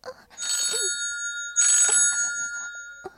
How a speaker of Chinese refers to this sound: 你看，这不是你电话吗？什么声音呢？电话声音太难听了，快接！